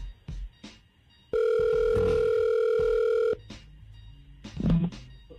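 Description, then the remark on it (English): A loud, steady telephone dial tone hums for about two seconds while a phone call is being placed, framed by brief clicks and faint handling noises before and after, with no one speaking. “All right, let's call Tony. Hang on.”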